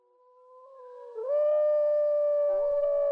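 A single wolf howl rises from a soft start into a long, sustained tonal wail that grows louder and holds steady, with a slight waver near the end. No talking.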